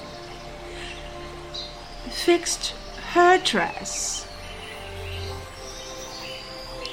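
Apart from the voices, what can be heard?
birds chirping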